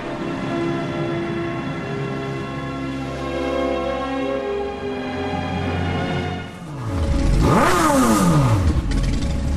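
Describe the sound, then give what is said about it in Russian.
Loud motorcycle engines drone steadily, then one revs hard, its pitch dipping and sharply climbing into a roaring whine, on the clearing before the Church of Saints Peter and Paul in Salair, Russia, filled with crowds of people in black leather. No one speaks. “Рев моторов заглушает звон колоколов, а поляну перед храмом заполняют десятки, сотни людей в черных кожаных одеждах.”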